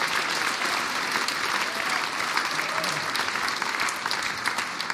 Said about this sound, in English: Should we give them all a round of applause again?